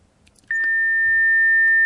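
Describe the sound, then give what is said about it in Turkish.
A steady, loud telephone line tone of the first incoming call to a live broadcast starts abruptly and holds continuously for about a second and a half, with faint background noise and no talking. “Biz de şimdi ilk telefonumuzu alıyoruz.”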